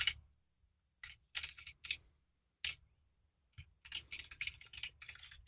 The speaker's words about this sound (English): He's such an IT guy. Is that IT or what? Yeah. He's ignoring you and he's just typing.